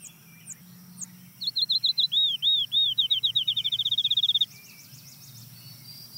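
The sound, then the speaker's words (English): A field sparrow sings a clear, sweet series of down-slurred whistles that start slow and speed into a rapid trill, lasting about three seconds over a quiet, low background hum. “That trill is the field sparrow?”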